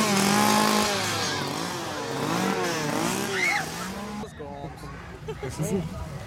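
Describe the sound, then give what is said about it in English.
Voices loudly imitate revving chainsaws, as Lucha Libre wrestlers wielding chainsaws, with buzzing, rising and falling engine sounds for about four seconds, then trail off into quieter sputtering bursts. “As Lucha Libre wrestlers with chainsaws.”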